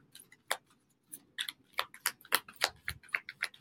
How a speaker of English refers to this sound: Show me the theme for Thomas Green over the next 3 months, please. Do one more shuffle.